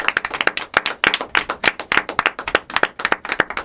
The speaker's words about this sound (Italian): Beh, bravo. Un applauso.